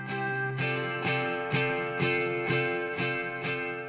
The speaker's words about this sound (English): I wanted a really horrible sound. And I was like, what sounds more horrible than an acoustic through an amp? I think it's one of the most horrible sounds on the face of the earth. So we put it through the amp with reverb on it.